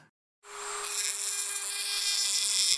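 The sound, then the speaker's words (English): A dentist's drill starts abruptly and whirs steadily, a sustained high-pitched whine with a hissing edge that holds at an even loudness without any talking. “I wasn't at all scared about seeing the dentist until I heard the drilling.”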